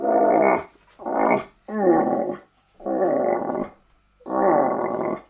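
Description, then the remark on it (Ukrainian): A rutting call blown on a hunting call instrument, imitating a male moose calling a female during the rut to lure it in: five loud, drawn-out groaning bellows with short pauses between them, no talking. “Оленя подзывают.”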